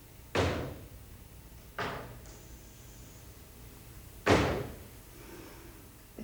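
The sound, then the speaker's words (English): Three separate knocks on what sounds like a door or wooden surface, solid and fairly loud, with a longer pause before the third, against a quiet background. “Then she and Archie heard a series of strange knocks.”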